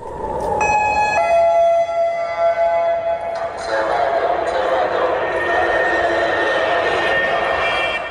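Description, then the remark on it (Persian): A loud, sustained rocket attack warning siren in an Israeli city, sounded during Hamas rocket attacks, wails steadily with strong harmonic tones, holding a drawn-out pitch over a wash of ambient noise, with a shift in tone partway through. “صدای آژیری که هر از چندگاهی در برخی شهرهای اسرائیل شنیده می شود. هشدار حمله راکتی.”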